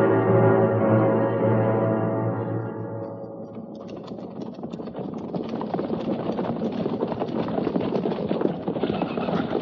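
A sustained, humming tone fades away, then many horses' hooves clip-clop in a dense, irregular clatter as a column of riders moves out, keeping going steadily to the end.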